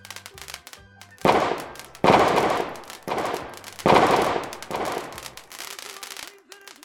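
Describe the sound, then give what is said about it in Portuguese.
A small private fireworks battery at a home São João celebration goes off in a rapid string of loud, sharp bangs. Crackling bursts come roughly once a second over several seconds, with a faint low hum between them. “As pequenas baterias de fogo, apesar de ilegais, são uma constante nas celebrações mais caseiras.”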